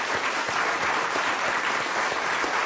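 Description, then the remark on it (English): An audience claps steadily for the crew of a WFMT broadcast. It is a dense, even wash of many hands at a consistent loud level, with crisp individual slaps throughout and no voices rising above it. “Can we all just give them all a hand?”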